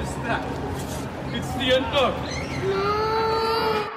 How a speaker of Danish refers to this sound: kan lægge lyden ind af nogle børn, der græder.